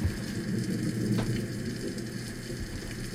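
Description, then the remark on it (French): Steady rain falls in a continuous, dense hiss with a low rumbling undertone, unbroken for the whole stretch, with no voices present. “Une brume noire et épaisse monte dans le ciel, masquant presque la pluie et le peu de lumière qui s'invite maintenant, alors que le soleil semble s'être doucement levé derrière les nuages épais.”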